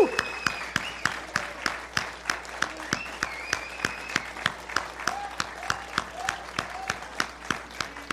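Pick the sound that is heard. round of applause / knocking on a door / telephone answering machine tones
round of applause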